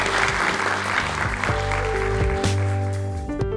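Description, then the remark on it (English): Sustained applause from an audience for the guests at the end of a conversation about climate fills the space, a dense steady patter of many hands clapping, while a few held musical tones rise up beneath it partway through. “Let's give them a big round of applause for us.”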